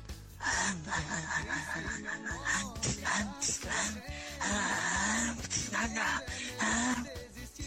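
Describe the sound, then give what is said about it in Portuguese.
A voice imitates a dog whimpering: a run of high, strained whines, gasps and moans, loud, over a dense, busy background for the whole stretch. “Teu cachorro, tu tá onde, praga?”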